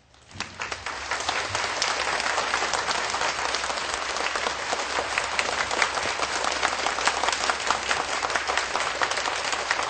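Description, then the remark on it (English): Sustained applause from an audience in Taiwan thanking His Excellency and the distinguished guests, a dense, steady wash of many hands clapping at a fairly loud level, with no voices rising above it. “Let us please give a big round of applause to thank His Excellency and all the distinguished guests.”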